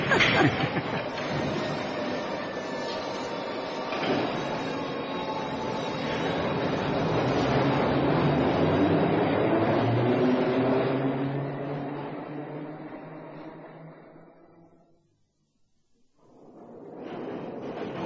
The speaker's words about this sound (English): at the fact that at any one time, thousands of people are whizzing about on trains in every direction, hundreds of feet below ground.